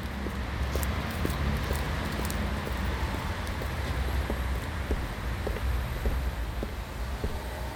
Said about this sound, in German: Diese Atmos setzen sich aus Sound Signals zusammen. Auf der Straße fahren Autos, Passanten gehen vorbei.